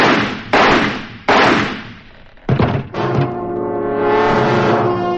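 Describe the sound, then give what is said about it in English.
Three loud, sharp gunshots ring out about half a second apart, each with a long echoing decay, then two more quick bangs give way to a sustained, swelling musical tone. “He wiped his fingerprints from the smoking gun and from the whiskey glass.”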